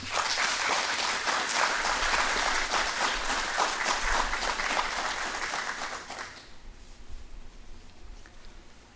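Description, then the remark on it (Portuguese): A round of applause from a group at a municipal legislative session, for the presentation of a commemorative plaque honouring a deceased woman: dense steady clapping that holds strong for about six seconds, then fades quickly to a faint murmur with a few stray claps. “E peço uma salva de palmas.”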